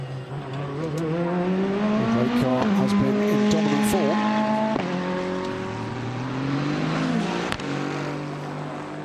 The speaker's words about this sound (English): So the Porsche down towards the first chicane. Through goes the number 8 Iron Lynx car.